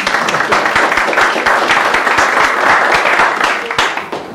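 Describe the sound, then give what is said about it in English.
Steady audience applause thanking a woman who has just read a Bible passage, a dense, even patter of claps from many hands that holds for about four seconds before starting to thin out at the end. “We can thank her.”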